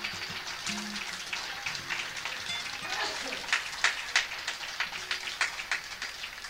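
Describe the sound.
An audience applauds a poet from Tandil who is present, with a dense, steady patter of many hands clapping, a few sharper claps standing out toward the end, and faint voices mixed in beneath.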